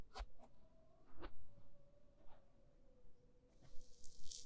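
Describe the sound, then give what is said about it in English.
Wet squishing and soft crackly rubbing sounds of ears with small cuts being cleaned with a little water, in irregular bursts, with a faint steady tone underneath and a brief hissy rustle near the end; no one speaks. “Yes, I can see a few cuts in your ears. But they aren't serious. I'll clean it for you anyway.”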